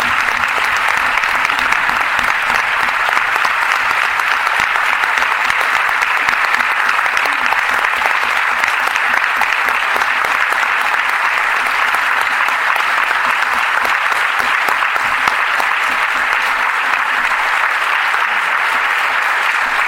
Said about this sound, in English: And if you can hear us out there, let's give a little applause So hopefully you can do it.